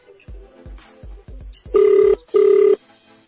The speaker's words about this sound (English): It's ringing.